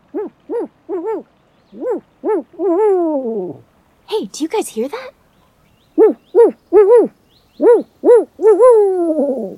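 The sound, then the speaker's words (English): A person in a forest, looking for owls during the owl breeding season, imitates an owl with a series of rhythmic, arched hoots in short bursts, fairly loud, with a brief spoken line breaking in midway before the hooting resumes. “It kind of sounds like an owl, but I think it might be my friend”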